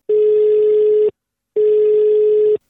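A telephone ringing tone as Radio Toscana goes to a phone call, before the call connects: two steady, loud one-second beeps separated by a brief pause, with a third just beginning. No voices.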